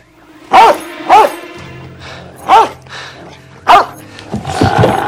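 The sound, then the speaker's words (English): A black dog barks four times, loud sharp woofs spaced unevenly, with a low steady rumble underneath and a rougher, noisier stretch at the end. “A black dog is only feet away.”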